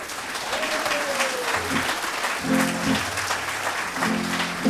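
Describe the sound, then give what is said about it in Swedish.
An audience applauds steadily to welcome an orchestra onto the stage, a dense wash of clapping throughout, while low sustained tones and a falling whistle-like note sound faintly beneath it. “Vi ger dem en riktig applåd, tycker jag.”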